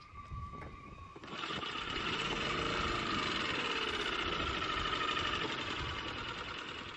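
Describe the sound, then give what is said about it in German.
An old diesel engine on a small fishing cutter, no longer than a small VW bus, cranks and catches on the first try after about a second, then settles into a loud, steady rumbling run with a rattling, knocking texture, with no voices. “startet sein Vater den alten Dieselmotor.”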